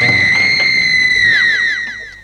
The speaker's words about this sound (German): Ihr seht, eine schreiende Uhr ist nichts Besonderes für mich.